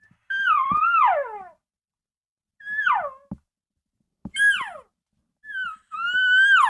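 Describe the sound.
A series of whiny cow calls blown through a bugle tube: four or five nasal, high-pitched whines that slide downward, separated by short pauses and an occasional soft thump, with no talking.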